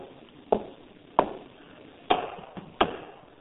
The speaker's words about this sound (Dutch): Die zegt, hij komt en hij staat aan de deur en hij klopt. Klopt. Je kunt zo kloppen.